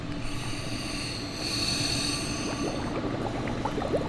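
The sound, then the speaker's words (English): Air released underwater from a scuba diver's low pressure inflator hose, raised up with its button pressed: a steady rushing hiss, joined after a couple of seconds by dense, rapid bubbling and gurgling pops that continue loudly to the end. “You would like to see some bubbles.”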